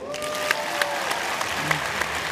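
A crowd claps together in a dense burst of applause, many hands overlapping into a steady rattling wash with a few sharper claps standing out, fairly close.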